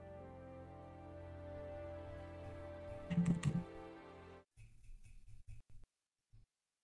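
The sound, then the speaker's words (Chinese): A steady hum of background noise cuts off abruptly, followed by a quick run of clicky computer keyboard key presses on a lagging computer where every key pressed jumps erratically, and one last isolated tap; no one speaks. “我不是键盘卡了，是啥情况？电脑卡了吗？为什么按什么都要会乱弹啊？”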